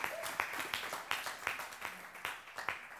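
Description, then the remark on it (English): A crowd applauds steadily for a couple's 10-year wedding anniversary, with dense overlapping claps forming a continuous wash and sharper individual claps popping out every fraction of a second, moderately loud throughout. “Yes, the reason why they're clapping is because they're saying you're a survivor.”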